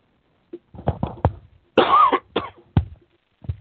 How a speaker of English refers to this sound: I'm sorry, I hope you're not hearing my coughing too loud and too far from the cough button. And I've got a horrible cough. I'm sorry.